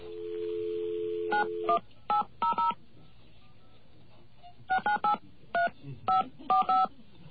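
A steady dial tone gives way to a quick series of touch-tone beeps as the telephone number for ABC, the American Broadcasting Company, obtained from an information service, is punched in, the paired tones coming in short bursts with brief pauses between groups.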